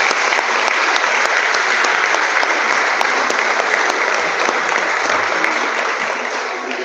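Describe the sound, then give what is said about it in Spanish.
Sustained applause from an audience for the Chilean police institution Carabineros de Chile, a dense, steady wash of many hands clapping at once, loud and even throughout with no voices standing out. “así que invito a todos los presentes, ¿no es cierto?, a brindar un caluroso aplauso por la institución de Carabineros de Chile.”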